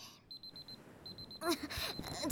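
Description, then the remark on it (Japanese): A timer alarm signalling that the session time is up at a shop beeps in quick, evenly spaced pulses, two short bursts separated by a pause, clear, before a woman's voice starts talking over the end. “タイマー止めらんないでしょ。時間なんだって。”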